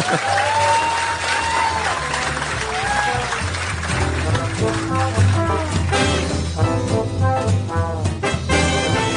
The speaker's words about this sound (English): Yeah, you can clap if you want. It's cool.